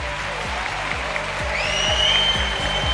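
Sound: audience applause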